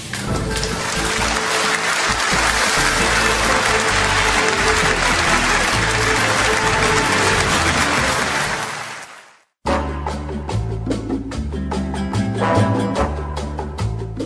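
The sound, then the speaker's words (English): A crowd applauds loudly and steadily for about nine seconds, the clapping swelling into a dense wash before cutting off, followed immediately by music; the crowd applauds Number 6, a candidate running for office in an election. “Good people, let us applaud a citizen of character.”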